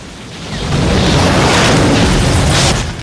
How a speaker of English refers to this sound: One of the helicopters launches three missiles at the burning car to make sure the occupants are properly dead.